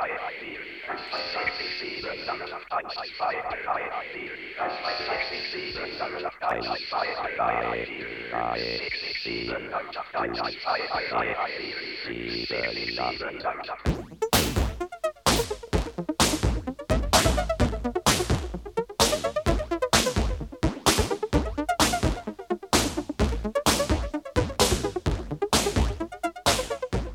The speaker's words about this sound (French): Les Allemands ne purent jamais déchiffrer ce signal. Même s'ils le captaient, tout ce qu'ils entendaient était seulement comme un bruit de radio mal réglé.